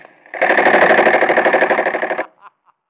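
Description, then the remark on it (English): A loud submachine gun burst rattles off rapid, evenly spaced shots for about two seconds, then cuts out, leaving a few faint scattered clicks afterward; the gun is fired into a man's face. “I'll never forget the look on that bird's face when I let that chopper go off in his mush.”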